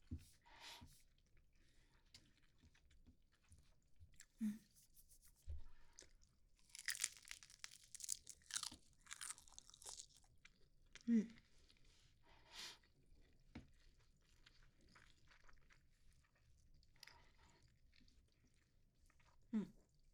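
Crisp crunching and moist chewing of nori-wrapped rice, with irregular bites and crackles over about twenty seconds, quiet with no talking.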